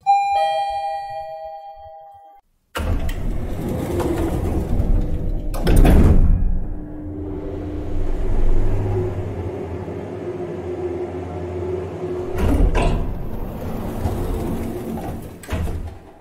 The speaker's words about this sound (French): Naël prend l'ascenseur pour sortir de chez elle.